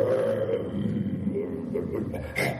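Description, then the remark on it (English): A deep, rumbling lion-like roar sustains for a couple of seconds, loud, swelling again briefly at the end. “a roaring sound was heard. And the sound of Narsingadev starting to, it was roaring like a lion”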